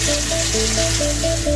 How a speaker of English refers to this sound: Do you hear that? Those are the sounds of infrastructure at work. The power that charges your devices. The road you drive. The water you wash in.